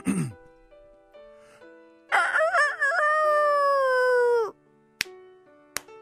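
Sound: imitated rooster crowing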